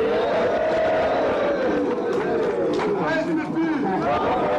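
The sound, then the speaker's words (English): A large rally crowd roars and cheers continuously as MKO rouses them up, the people raising their hands in support, a dense wash of many overlapping voices with shouts and rising calls poking through, loud and unbroken throughout. “The crowds are cheering and raising their hands in support.”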